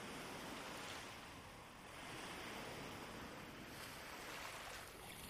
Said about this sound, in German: Du hörst, wie die Wellen gleichmäßig ans Ufer rollen, sanft brechen und wieder zurück ins Meer gleiten.